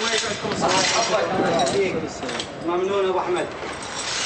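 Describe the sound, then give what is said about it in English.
Broken glass shards clink and scrape as an employee sweeps them across the hard floor of an electronics shop, a steady jumble of small tinkling hits with people talking throughout. “An employee sweeps the shards of glass off the floor”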